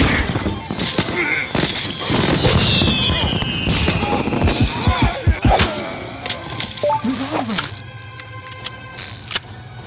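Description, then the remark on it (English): Fireworks exploding in a rapid, irregular barrage of loud bangs and crackles, with a whistling sweep overhead early on and a few sharper pops near the end. “Fireworks.”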